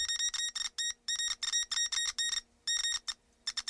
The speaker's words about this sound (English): I've discovered by tapping the copper wire with a rusty nail, I can broadcast a message via Morse code.